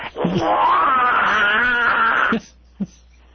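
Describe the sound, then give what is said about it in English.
A voice imitates the famous 'Dean scream' campaign-rally yell: one loud, raspy, sustained yell lasting about two seconds with a wavering pitch, then a short clipped vocal sound after a brief pause. “The Dean scream.”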